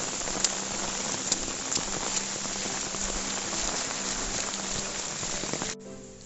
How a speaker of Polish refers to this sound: Teraz właśnie schodzimy, ale ulewa nas złapała. Po prostu ulewa. Słuchajcie tej ulewy. Nie wiem, jak mamy dojść, no bo już prawie już troszeczkę wody jest na drodze.